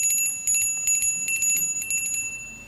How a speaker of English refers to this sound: Because you asked to ring this bell.